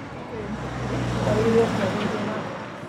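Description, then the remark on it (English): A low, steady car engine rumble with a wash of road noise, muffled as if coming through walls, droning continuously without a break, leaking from outside into a curved-wood museum auditorium that has no soundproof doors. “We found out that we can hear a lot of car engine rumbles and a lot of other different kind of noise, because this the auditorium where we did all the recording, it doesn't have any soundproof door that cover the outside part.”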